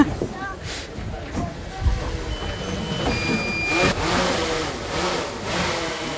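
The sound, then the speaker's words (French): A drone's motor buzzes and whines steadily as it is piloted over an inhabited tropical island, its pitch rising and falling as it flies, with thin high tones flickering above and muffled voices underneath. “Et là, il me faut contrôler le drone.”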